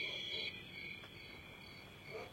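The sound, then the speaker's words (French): A steady nighttime chorus of crickets trills continuously, a thin high-pitched shimmer heard faintly, with no voices and only a soft low rumble underneath. “Et d'un seul coup, les grillons et les chiens se taisent.”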